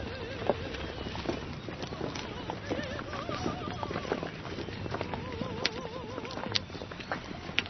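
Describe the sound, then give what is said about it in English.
A horse-drawn buggy clip-clops along at a steady pace, hooves striking in a continuous rhythm with faint wheel rumble, while indistinct voices murmur beneath. “So how much did that horse and buggy set us back?”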